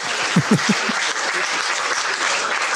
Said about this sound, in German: Den Applaus, den nehmen wir noch eben mit.